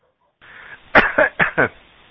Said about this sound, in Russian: Только не кашляй, пожалуйста, в микрофон.